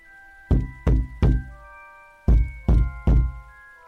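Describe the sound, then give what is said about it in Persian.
Two sets of three heavy, evenly spaced knocks on a door, loud and booming, with a short pause between the sets and a faint steady tonal hum underneath. “دوباره یک نفر به در زنگ زد.”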